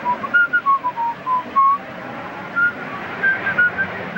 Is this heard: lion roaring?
no